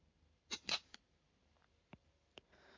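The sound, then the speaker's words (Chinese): A small metal chastity lock is fastened: a quick cluster of sharp clicks and rattles, then a few quieter, spaced-out clicks as it snaps shut, otherwise quiet. “这个叫贞操锁，只有姐姐有打开的钥匙。”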